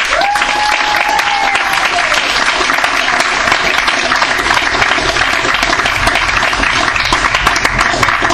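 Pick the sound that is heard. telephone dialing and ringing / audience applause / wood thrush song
audience applause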